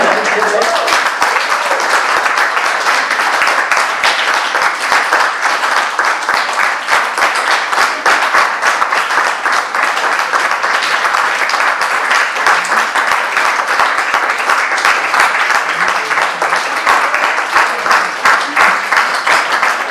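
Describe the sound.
Sustained audience applause, a dense, steady wash of many hands clapping that stays loud and even for the full twenty seconds, with a few faint voices mixed in.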